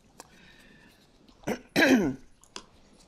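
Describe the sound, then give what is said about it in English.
A person clears their throat and coughs: a short burst, then a longer, rougher throat-clearing rasp, followed by one quick final cough, with no talking. “Hopefully without getting a coughing fit.”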